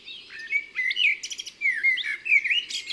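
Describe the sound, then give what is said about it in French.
A Eurasian blackbird sings, with rich, fluting whistled phrases that rise and fall, each ending in a brief high twitter. The song runs continuously with no voices. “Ses strophes sont toutes différentes, avec beaucoup d'inventions, de la musicalité. Le merle est un artiste.”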